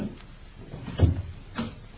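A door opens as someone enters, with a muffled wooden thud and a lighter click a moment later, fairly quiet against a faint background hiss, with no one speaking.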